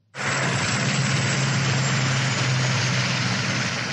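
A police helicopter hovers overhead above a rush-hour traffic jam on a highway on the outskirts of the port city of Durban, droning loud and steady, a continuous roar of engine and rotor with a low hum underneath, starting abruptly and holding constant with no voices.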